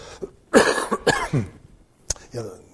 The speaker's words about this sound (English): Forgive a cough every once in a while.